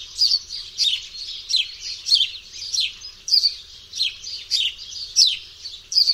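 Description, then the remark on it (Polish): A sparrow chirps steadily and repeatedly, about two short notes per second, each chirp landing at a slightly different pitch, clear, with no other sounds around. “Charakterystyczne jest to, że kolejne ćwierknięcia wydawane są w nieco zmienionej tonacji.”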